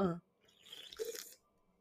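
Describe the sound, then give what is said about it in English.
A brief vocal murmur, then a quiet slurping sip lasting under a second, a soft airy hiss with a small gulp-like blip in the middle, followed by near silence. “Also, I'm realizing that y'all can hear me drink and sip.”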